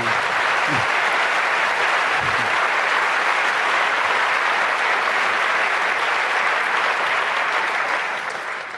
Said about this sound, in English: Yeah, and you know, if you start lists, just another clap to you, the one we forgot to mention.